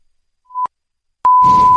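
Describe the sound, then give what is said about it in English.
A steady high-pitched censor bleep bleeping out a word: a short tone, a brief pause, then a second, longer bleep that runs on loudly as a burst of noisy sound rises underneath it. “Something that we do have to beep out.”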